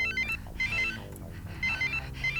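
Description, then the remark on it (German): A mobile phone rings behind a hedge with a bright electronic ringtone melody, short chirpy phrases repeating in quick bursts over a low background hum, with no voices. “Denn plötzlich hörte ich hinter einer Hecke ein anderes Handy klingeln.”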